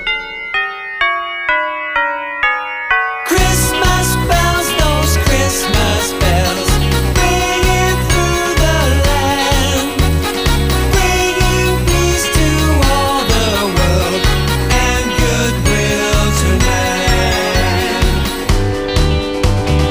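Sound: jingling bells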